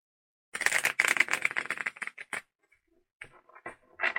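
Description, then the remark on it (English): A deck of tarot cards being shuffled for a reading, a dense rapid riffle of papery flutters and clicks, followed by a few softer shuffles and taps after a brief pause. “You want me to shuffle? I feel like I'm supposed to shuffle.”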